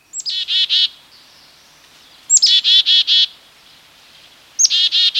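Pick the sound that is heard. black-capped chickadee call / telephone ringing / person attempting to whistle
black-capped chickadee call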